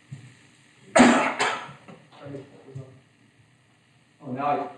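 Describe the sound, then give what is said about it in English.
A loud double cough bursts out, followed by a few softer, throaty coughs and a pause, then one more cough near the end. “I'm going to cough here.”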